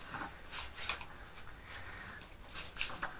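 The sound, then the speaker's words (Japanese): Quiet, crisp snips and rustling, with several short bright bursts spaced irregularly, as scissors cut leaves held taut by hand, over a soft background hiss. “じゃあハサミ動かしながら切ってごらん。”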